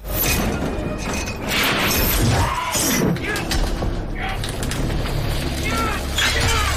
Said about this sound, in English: He breaks a pipe off and races back to Claire.